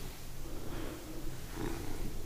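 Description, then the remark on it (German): A cat purring, a steady low rumbling drone that pulses gently and continues for a couple of seconds with no voices over it. “Schnurr, schnurr, weiß.”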